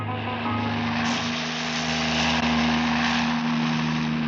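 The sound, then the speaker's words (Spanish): A helicopter in flight, heard from inside, as a loud, steady engine drone with a low humming tone and broad rushing noise, continuous throughout without breaks or voices. “Dentro del helicóptero, el inspector Tamato le hace preguntas al pequeño Solín, mientras el hombre increíble está sumido en hondas reflexiones.”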